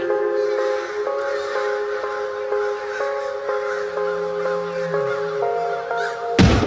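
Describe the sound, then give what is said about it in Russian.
A large flock of crows caws continuously, many harsh overlapping calls forming a dense, noisy chorus that stays fairly loud throughout, ending with a brief sharp burst. “Каркала стая, как будто в насмешку над этим исходом сражений стандартным.”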